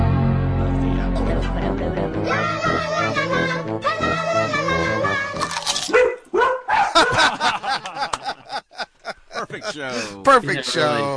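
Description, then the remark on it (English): A dog barks: drawn-out whining yelps at first, then a rapid run of sharp, choppy barks, loud and nearly continuous throughout. “Dog's gonna someday get, that door will be that closed and everybody will be on the other side of it.”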